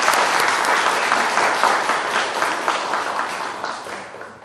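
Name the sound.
welcoming applause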